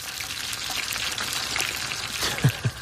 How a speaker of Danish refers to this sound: Skal vi lige lytte til, hvordan det lyder, når man ikke skal stege, hvordan man ikke skal stege en bøf